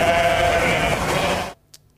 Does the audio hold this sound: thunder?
no